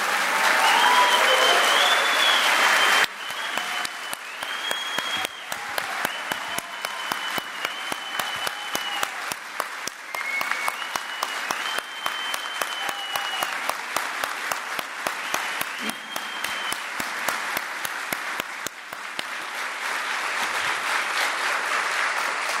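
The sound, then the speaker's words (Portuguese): Sustained audience applause for the fire brigade members (brigadistas) present fills the whole stretch, dense rapid clapping from many hands, loud and steady, with a few scattered whistles rising above it and no talking. “E eu queria pedir, senhor presidente, uma salva de palmas aos brigadistas aqui presentes.”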